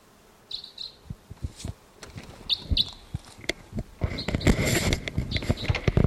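Short, high bird calls sound in brief paired bursts, fitting a crossbill's repeated toop notes heard in the distance, over low rustling and thumps that grow louder toward the end.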